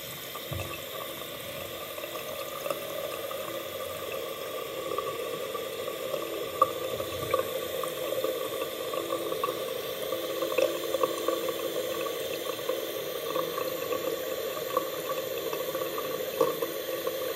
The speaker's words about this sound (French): à l'eau qui coule. Ouais, du robinet et qui tombe bah, du coup dans l'évier. C'est ça? Et c'était pourquoi tu faisais couler de l'eau? Bah, c'était parce qu'on faisait des purges en fait.